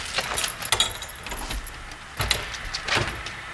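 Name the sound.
keys jangling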